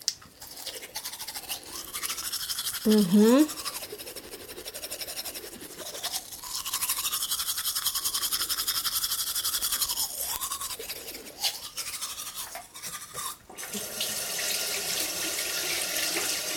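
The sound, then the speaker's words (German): Steady toothbrush scrubbing with a toothpaste containing baking soda, a brisk wet bristly rasp that continues for a while, with running tap water and a brief faucet gush partway through. “So, ich habe das jetzt auf meine Zahnbürste drauf gemacht.”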